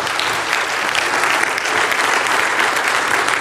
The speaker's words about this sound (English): Come on, applaud Jesus. He's working right now.